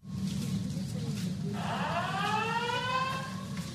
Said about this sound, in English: At one Waikiki hotel, the alert it sent out to get their guests' attention sounded just like the state's emergency sirens. So that may have added some confusion.